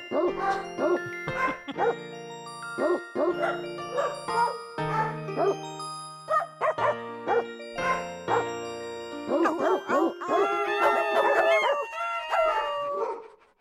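Dogs bark a Christmas tune, their pitched yelps arranged into a bouncy melody over a steady musical backing. The barks are loud, ending in a longer, howling stretch. No one speaks.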